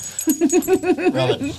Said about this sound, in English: Anyway, listen to the dog and that sort of drooling, slurpy sound he makes. That's you.